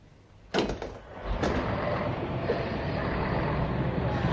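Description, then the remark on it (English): Swing doors bump open with a sharp thud, followed by a second softer knock as they swing, then a steady wash of rumbling, traffic-like noise fills the rest. “Swing doors.”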